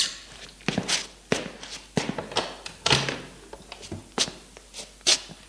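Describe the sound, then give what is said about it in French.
Steady footsteps cross a hard floor, about a dozen distinct steps as a man gets up to answer a knock, with a heavier thunk partway through as he opens the door. No one speaks. “Il se lève et va ouvrir.”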